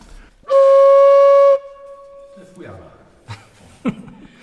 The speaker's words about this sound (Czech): Tak já je popíšu. Tenké, krátké kovové píšťaly.